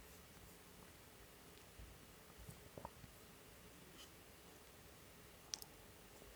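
Soft, scattered keyboard taps, a few quick clicks in a cluster and then a sharper lone click near the end, set against a faint hiss with no voices.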